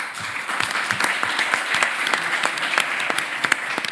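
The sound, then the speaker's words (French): At the close of a forum, an audience applauds to thank the organizers and hosts: steady, dense applause, many hands clapping at once in a continuous crackling wash with sharp individual claps standing out, sustained at a fairly even level throughout. “Et je crois qu'il faut applaudir tout ce monde et les remercier.”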